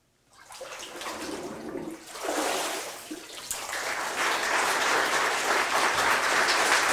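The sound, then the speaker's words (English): Water splashes and sloshes as someone is immersed during a baptism, then a dense, steady wash of noise swells and holds loud to the end, like clapping from a crowd mixed with dripping water. “In the confession that you have made before God and these witnesses, I baptize you with water.”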